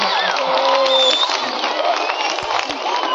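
A large crowd at a benefit concert for the Lincoln Park Zoo boos loudly and steadily, a dense roar of many voices with a few drawn-out individual jeers rising above it throughout.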